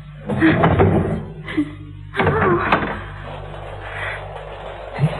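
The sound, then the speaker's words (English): A door is unlocked and pushed open: a cluster of metallic clicks and rattles, a pause, then another burst of handling noise and a creak, over a low steady hum. “The door's locked. So it is. Well, I'll have to unlock it, won't I?”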